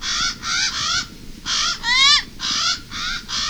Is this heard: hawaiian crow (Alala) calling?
yes